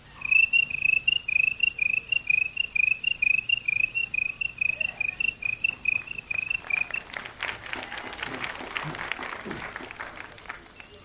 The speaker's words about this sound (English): after supper and go out on the front porch and pick out a good rocker and just watch the nighttime come in, and conversation would kind of drift off into silence, and you'd be sitting there and listen to the crickets.